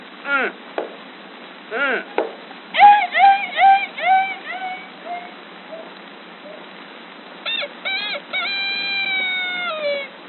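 A voice imitates chickens and roosters: bursts of squawking and clucking, a quick run of sharp calls, then a pause and a longer stretched crow-like squawk, fairly loud.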